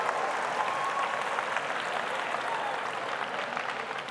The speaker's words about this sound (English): You guys like clapping. This is fun.